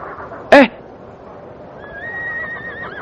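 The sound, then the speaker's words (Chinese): A single short, loud donkey bray bursts out early, then stops, from a donkey brought for the teacher to ride, leaving a steady background hiss with faint thin high tones drifting in toward the end. “我知道老师今天为什么要骑驴了”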